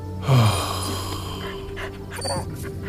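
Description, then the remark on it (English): A dog lets out one loud, deep bark near the start, followed by quieter low rumbling and breathy sounds for the rest of the moment. “Well, the dog can't stay here for the night.”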